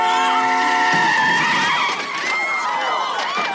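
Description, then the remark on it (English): A car skids with a loud, sustained tire screech that wavers in pitch for a few seconds, harsh, as it hits a pedestrian, with a possible cry mixed into the noise. “So I feel like, Emily gets hit by the car.”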